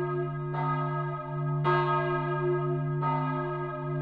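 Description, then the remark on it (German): Church bells of the Boßlerer church ring in a slow, steady peal, three strong strikes over a sustained humming drone of overlapping tones that linger between each stroke, full. The large bell was cast in 1338 for St. Maria im Kapitol in Cologne. “Besonders einladend ist der Klang der großen Glocke, die viel älter ist als die Boßlerer Kirche.”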